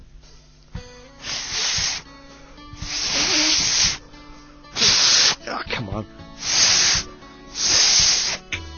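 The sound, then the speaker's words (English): Five or so breathy, hissing bursts of air from someone failing to whistle, with no tone coming through, broken up by short frustrated exclamations from a voice. “I'm never gonna be able to whistle.”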